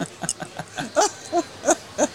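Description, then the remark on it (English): A person imitates a screech owl, whistling a quick series of short, quavering hoots that start soft and grow louder and clearer toward the end. The voice is heard alone. “Okay, that's a screech owl.”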